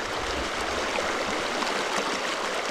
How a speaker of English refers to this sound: Here in northern Minnesota, it's a surprise to see that the Great River starts out as little more than a gurgling stream.